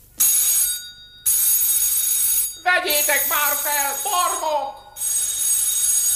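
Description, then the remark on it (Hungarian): A telephone rings in loud, shrill bursts, two quick rings, then a man's voice calls out over a pause before a third ring sounds again. “Vegyétek már fel, barmok! Holló? Izé, halló?”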